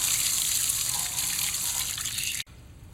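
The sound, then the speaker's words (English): Water sprays steadily onto a wheel, rinsing it clean all the way to the back, in a loud hissing rush that cuts off abruptly near the end, leaving quieter background. No one speaks. “like the wheel with water.”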